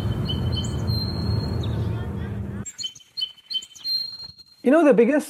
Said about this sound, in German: Ein anderes Beispiel: Jemand sitzt in einem Park und möchte nur das Vogelzwitschern hören, nicht aber Stimmen und Verkehrslärm.